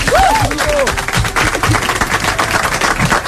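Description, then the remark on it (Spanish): Audience applause for a young female singer coming up to the stage fills the whole stretch, a dense, steady clatter of many hands clapping, with a brief whistle or cheer rising over it near the start. “Que s'acosti a l'escenari, sisplau, i un aplaudiment per ella”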